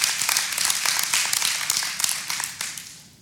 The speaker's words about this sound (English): Amen. Give the Lord praise. That was a great amen moment, a clap moment or something.